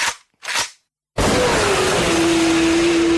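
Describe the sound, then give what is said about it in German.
Two quick bursts of a BMW S1000 RR motorcycle engine revving, a brief pause, then a sudden loud, sustained roar as the bike accelerates hard, 0 to 100 in 2.9 seconds, with a steady whining tone riding over the noise. “Von 0 auf 100 in 2,9 Sekunden. Die BMW S1000 RR.”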